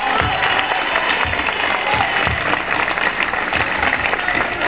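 A crowd applauds steadily, a dense, even wash of many hands clapping at a constant loud level throughout, with faint low thumps beneath and no voices standing out.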